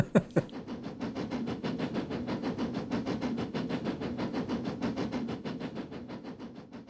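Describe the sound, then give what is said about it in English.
A train rumbles along the rails with a fast, steady rhythmic chugging clatter that holds constant throughout, opening with a couple of sharp knocks, moderately loud, with no voices. “they had a section called Train Sounds, believe it or not. So I remember I bought one called …”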